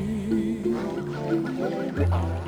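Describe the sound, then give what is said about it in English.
A parrot squawks in a run of loud, nasal, honking calls that rise and fall in pitch, over a steady low rumble in the background. “A parrot.”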